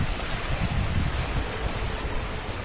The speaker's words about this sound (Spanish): Este sonido es el de alguna de las numerosas inundaciones que hubo, por ejemplo, en Apayoza, según puedes ver en las redes sociales de COPE Coruña, un auténtico géiser.